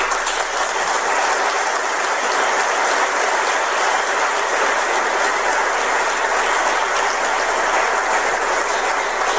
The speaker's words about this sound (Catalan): i m'agradaria també demanar un altre aplaudiment, en què avui no està aquí.